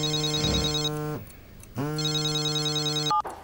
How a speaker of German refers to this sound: 25. November 2019, 5.30 Uhr. Bei der Generaldirektorin der staatlichen Kunstsammlungen in Dresden klingelt das Telefon.